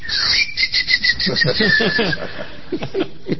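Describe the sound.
A voice imitates a squeaky dog toy's whistle: a high, thin squealing tone held for about two seconds over rhythmic puffs, followed by a few short breathy chuckle-like bursts, fairly loud.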